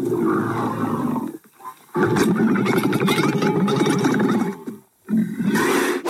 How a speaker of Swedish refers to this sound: Det var en kamel.